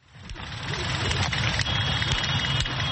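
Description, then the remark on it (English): A steady low rumble of idling car engines of motorists stuck in a traffic jam in Nairobi, Kenya, a dense continuous drone with faint clicks and brief transients over it and no clear speech. “Being stuck in Nairobi's notorious traffic can be boring.”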